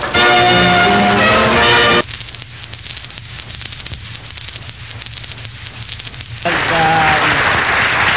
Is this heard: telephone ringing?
no